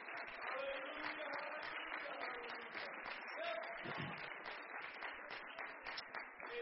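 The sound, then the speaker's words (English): A crowd at a religious gathering claps steadily for about several seconds after a speaker asks listeners to clap their hands if they believe. A dense, even wash of many hands with scattered voices and brief calls rising through it. “If you believe that, why don't you just clap your hands?”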